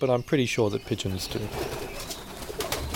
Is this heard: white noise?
no